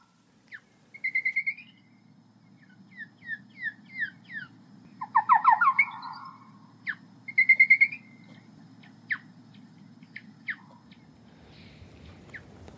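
Bat acoustic lure calls from a lure set up at a harp trap, slowed down ten times: a series of sharp, descending chirps and quick warbling trills at a mid-to-high pitch, coming in irregular bursts over a steady low rumble, with no voices.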